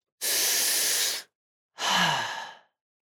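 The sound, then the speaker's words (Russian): One deep breath: a long, airy inhale, a short pause, then a slower exhale that ends in a faintly voiced sigh. No other sounds. “Дышать глубоко.”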